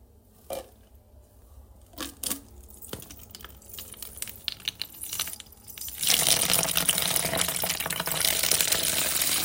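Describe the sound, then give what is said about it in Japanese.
A few seconds of light rustling and small taps, then a steady hissing stream of urine splashing into a paper cup held in a toilet, continuing to the end, with no talking. “じゃあね、おしっこ聞いてください。”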